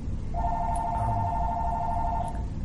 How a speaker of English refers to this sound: So we'll ignore that phone. It'll stop eventually.